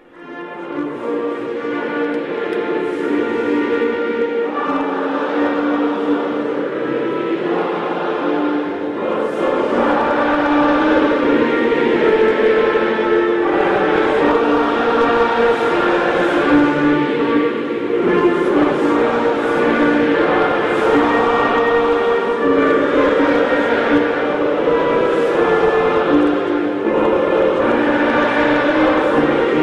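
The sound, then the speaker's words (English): A huge stadium crowd in Kansas City sings the national anthem together after the microphone failed, a loud, sustained wall of many voices holding long notes that swell and shift with the melody, with no pauses throughout. “But anyway, so the national anthem, the microphone crapped out, and then the audience, you got to love these folks in Kansas City, the audience, the crowd at the stadium just started belting out the national anthem.”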